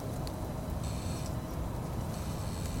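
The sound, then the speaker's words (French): A tree creaks in two drawn-out, high, thin squeals, each lasting about half a second or more, over a constant low rushing background noise, with no talking. “Non, mais c'est un arbre qui grince.”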